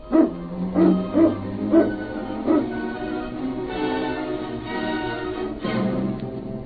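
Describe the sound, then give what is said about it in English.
Several sled dogs bark and yip excitedly as they are got up for the trail, a burst of sharp barks at the start giving way to a continuous, overlapping chorus of eager yelps and howling cries from the pack. “Get the dogs up, King.”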